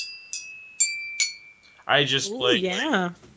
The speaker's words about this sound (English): Like, I just found a little xylophone, a little toy xylophone that we could possibly use for the live show. Would you like to hear me play it?